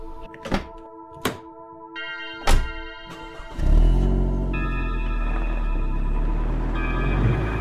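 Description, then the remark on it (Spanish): A car door thuds shut, with a couple of other solid thunks, then the engine turns over and settles into a steady, loud rumble alongside a soft electronic chime. “Subí al auto y me quedé pensando.”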